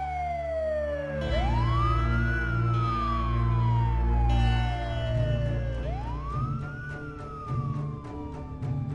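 A fire station alarm siren wails loudly, sweeping up in pitch and then sliding slowly down, twice in a row, over a steady low rumble.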